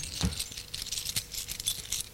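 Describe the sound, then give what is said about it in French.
A set of car keys jangles as it is lifted from a nightstand, a bright metallic clinking that rattles in quick irregular bursts for a couple of seconds, with a sharper clack near the start. “Voit sur la table de nuit les clés de la voiture. Il hésite un moment.”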